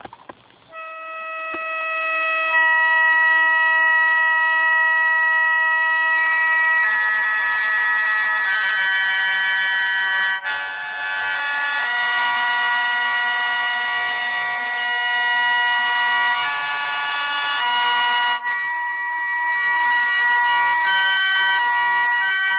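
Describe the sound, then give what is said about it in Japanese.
A shō, a Japanese free-reed mouth organ, plays alone, sustaining bright, reedy chord clusters that swell steadily and shift to new harmonies every few seconds, forming a continuous shimmering drone with no talking. “天から差し込む光のような神々しい響きが私たちを包み込む笙、まさに自然と響き合う音です。”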